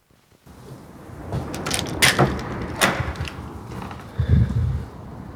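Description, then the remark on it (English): Old trees creak and groan in a slow, uneven series of wooden strains over a steady outdoor hush, ending in a deeper, low moan. No one speaks. “Around her, the old trees creak and moan to each other as if offended by the encroaching sun.”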